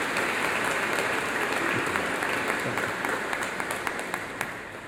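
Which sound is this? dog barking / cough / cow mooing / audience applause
audience applause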